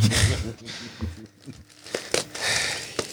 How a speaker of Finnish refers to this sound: Avaa se lahjan. Noniin.